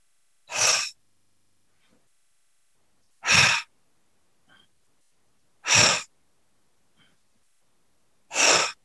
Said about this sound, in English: Apologies for hearing my deep breathing, but when you can hear someone else, it sort of helps. Breathe right into your belly.